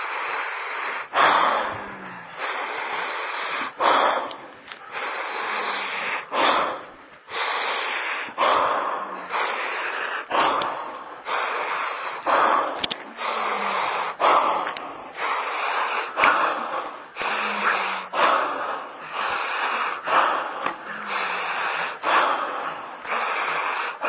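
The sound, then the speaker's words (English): Deep, forceful breaths through the mouth, one after another in a steady rhythm with only short pauses between them, loud with no talking. “I'm only with you once, so I'd say breathe through your mouth while you can.”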